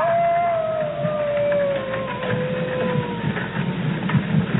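animal, wolf howling

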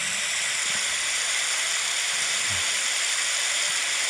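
nature, heavy rain pouring

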